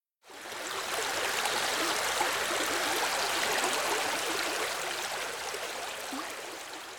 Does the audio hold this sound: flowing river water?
yes